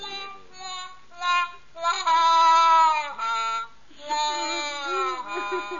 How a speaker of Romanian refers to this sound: Oare ce se aude? Cine plânge? Ah, mi se pare că este bucătarul împăratului. Ce-o fi plăsit, bietul bucătar?